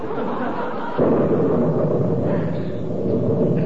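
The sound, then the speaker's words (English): A thunder crash during a lightning storm rolls in: a steady low rumble suddenly swells louder and keeps roaring as a dense, sustained, heavy roll, with no voices. “Did you see that lightning? I wish it would do that oftener or quit.”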